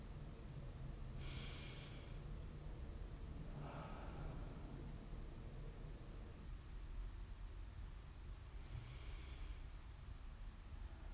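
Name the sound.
slow deep breaths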